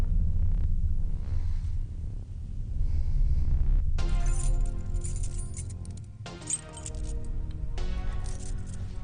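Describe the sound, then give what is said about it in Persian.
A low rumble at first, then a bright metallic jingle of keys shaking and clinking as they are handed over, for several seconds, briefly pausing before jangling again. No one speaks. “ضمناً کلید منو بده.”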